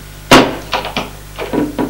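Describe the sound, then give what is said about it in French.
A connecting door being opened: one sharp wooden clunk, then a series of lighter knocks and latch-like clicks in an uneven rhythm. No voices. “Il lui ouvre une porte communicante.”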